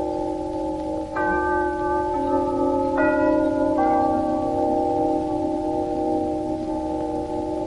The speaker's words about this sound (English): During the last 2 seconds, and now, the chimes of Telecron, the modern electric timekeeper that operates from your lighting circuit, have been heralding the approach of the hour.